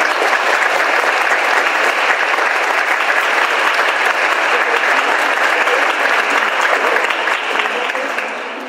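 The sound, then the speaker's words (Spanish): Sustained applause from a large audience at a ceremony for honourees, applauding an honoured former preparatory-school teacher: a dense steady wash of clapping that stays loud throughout before easing slightly at the very end. “quien por cierto fue mi maestro personal en la preparatoria número 7, y queremos que nos dé un aplauso.”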